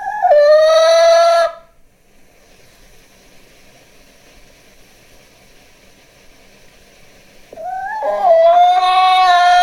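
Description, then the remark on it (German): A hen gives two loud, drawn-out calls, one at the start and one at the end, with several seconds of near silence between them. No one speaks. “Die haben es ganz genau genommen und wirklich nur ein Huhn, also eine Henne genommen.”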